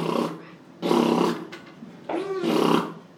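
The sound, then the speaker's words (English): A voice imitates the cannon of an A-10 Warthog, a plane built around its gun, with three loud, buzzy, growling bursts, each about half a second long, separated by short pauses. “A-10 goes burp.”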